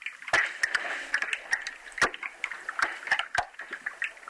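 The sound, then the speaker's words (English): Icebergs broken off a glacier crackle and pop in a glacier lagoon in Iceland as air trapped in the ice for millions of years escapes, with irregular sharp snaps and ticks scattered over a steady fizzing, watery hiss, clear, with no voices. “So what you're hearing is the kind of cracking in the air that's been stuck in these icebergs for millions of years.”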